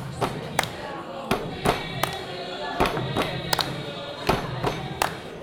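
A crowd stomps and claps along in a steady repeating beat, sharp thuds and claps standing out over a low murmur of voices and background noise.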